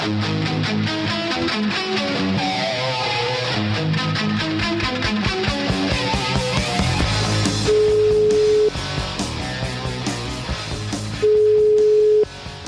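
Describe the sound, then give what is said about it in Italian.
A telephone tone sounds twice as long, steady electronic beeps, each about a second, clearly standing out over a busy background of music while a call is being placed from the Radio 24 (Il Sole 24 Ore) studio. “Aspetta un attimo, aspetta, che voglio fare una telefonata, aspetta.”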